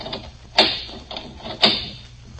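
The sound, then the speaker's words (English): Metallic clicks and clunks of a store door's locks being turned and unlatched, two sharp latch snaps about a second apart with softer mechanical rattles in between, fairly loud, no voices. “There's three locks in the store. I only turned two.”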